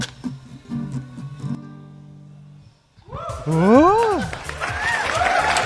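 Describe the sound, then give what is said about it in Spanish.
A sung melody with steady accompaniment fades out, and after a brief pause an audience breaks into loud, sustained applause, with a voice calling out over the clapping. “Gracias, gracias, aplaudan, de verdad, no cobran. Es gratis aplaudir.”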